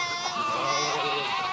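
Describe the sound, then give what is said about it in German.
A flock of sheep being herded by dogs bleats continuously, several overlapping wavering cries forming a steady, moderately loud chorus with no talking. “Die Herde, die hat 2 Seiten.”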